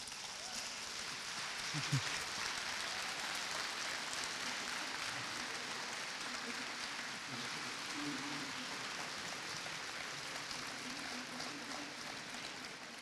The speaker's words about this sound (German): Und einen kleinen Applaus hat es eh schon gegeben, aber ich glaube, der Paul Lendwey verdient sich noch einen viel größeren Applaus.